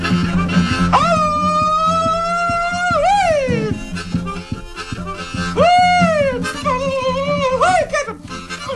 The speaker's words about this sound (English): That's old Kate now, listen. My old Pete. I haven't heard of one of your dogs yet. Oh, yeah. Listen to them dogs. Listen.